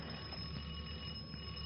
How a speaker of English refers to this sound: Well, didn't you hear it? That's the doorbell. Someone's at the door.